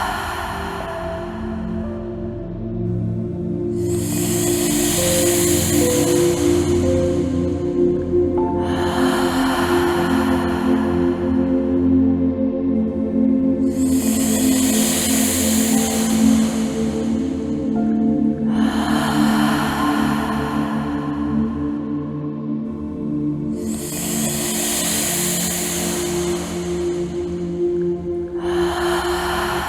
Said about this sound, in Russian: Идем, дышим. Еще 2 минуты дышать, уже время быстро прошло.